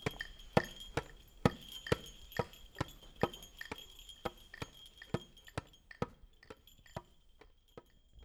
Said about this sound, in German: Noch lange lauschen alle dem hellen Gewimmel der Glöckchen und den Schritten des Weihnachtsmannes und Esels nach.